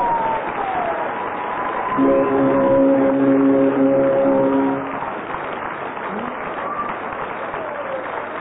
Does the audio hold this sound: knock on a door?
no